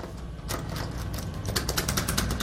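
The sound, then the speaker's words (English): A jarring mechanical clicking, rapid and irregular, rattles to the listener's right over a steady low buzzing hum, the clicks growing denser and sharper toward the end with no voices present. “We hear a buzzing sound, a jarring clicking sound to our right, and a something far to our left.”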